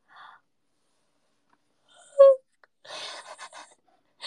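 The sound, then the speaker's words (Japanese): A single yawn: a brief falling voiced groan followed by a long breathy exhale that trails off in a few uneven puffs, with quiet pauses around it. “普通にあくびしちゃうんだよな。”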